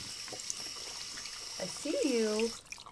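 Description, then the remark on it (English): Hands are being washed under a steady stream of running tap water, a continuous hiss, with a brief rising-and-falling vocal whine near the end. “Washing my hands.”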